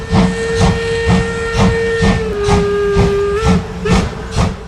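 A steam locomotive whistle blows in a long, steady tone over rhythmic chuffing bursts of hissing steam, loud, with no voices.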